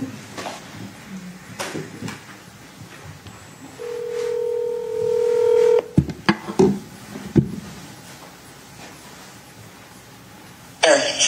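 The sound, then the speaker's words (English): A steady telephone dial tone hums for about two seconds, then a few short, uneven keypad beeps follow as a number is punched in to call a witness during a court hearing, with faint background room noise. “I'm going to try to call you, okay?”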